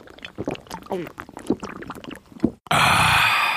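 Gulping and slurping as someone drinks water with ice cubes from a glass until it is empty, with short wet swallows and breaths, then a sudden steady burst of loud hissing noise at the end.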